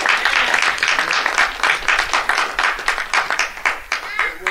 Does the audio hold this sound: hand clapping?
yes